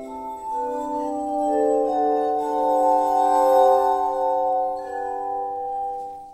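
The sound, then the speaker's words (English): Glass armonica being played, with sustained, pure ringing tones that overlap into soft chords and swell gently, a steady, shimmering sound heard alone at moderate volume. “the original Franklin instrument does survive, and it's sitting in the showcase at the Franklin Institute in Philadelphia”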